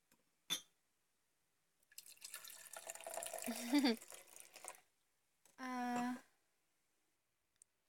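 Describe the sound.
Wine glugs and splashes into a glass for about three seconds, the gurgle rising in pitch as it fills. A sharp click comes just before, and a short voiced sound follows.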